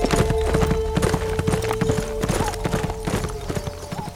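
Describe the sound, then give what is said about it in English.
Steady clip-clop of a black horse's hooves at a walking pace as it is ridden, rhythmic, continuing throughout with no talking. “He turned away and rode west, hoping to come across the tracks of Geneva's buggy.”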